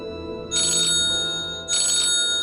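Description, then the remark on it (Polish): A telephone rings twice in quick bursts, each a bright, trilling electronic ring about a third of a second long, clear with no voices: a call from a Warsaw newsroom waking someone after two hours of sleep. “Po 2 godzinach snu obudził mnie telefon z warszawskiej redakcji.”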